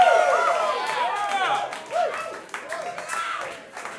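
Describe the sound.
An audience at a band's live show claps steadily throughout, applauding the band's turntable player, a loose patter of many hands sitting under a loud voice talking with rising and falling pitch.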